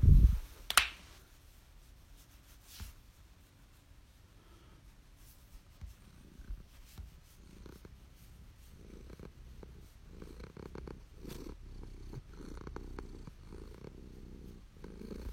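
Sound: cat purring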